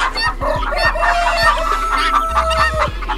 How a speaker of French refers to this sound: Mais des poules, l'ayant aperçu, ont donné l'alarme. Et toute la basse-cour de crier à tue-tête en voltant de tous côtés.